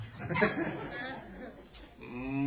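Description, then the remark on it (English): Chatter and a laughing voice give way to a person's drawn-out, low imitation of a cow's moo, mimicking a mobile phone ringtone, held steady for about half a second at the end. “He has the most interesting mobile phone ring. When someone calls him, you hear moo.”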